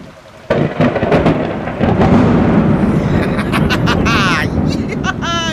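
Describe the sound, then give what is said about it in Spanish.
A lightning strike hits with a sudden loud crack, then rolling thunder booms and rumbles continuously over a hiss of heavy rain, with brief voices breaking through near the end. “¡Por fin! ¡Ya llega la tormenta!”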